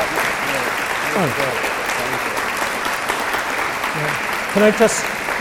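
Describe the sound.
Steady audience applause, a dense wash of many hands clapping at an even loudness, with a few voices briefly calling out over it near the end.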